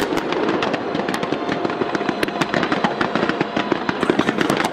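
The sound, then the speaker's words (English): A dense, continuous barrage of New Year 2025 fireworks bursts over Victoria Harbor, Hong Kong, sharp cracks and pops overlapping rapidly over a rumbling wash, loud and sustained with no pauses. “That was Hong Kong with a massive fireworks display lighting up Victoria Harbor.”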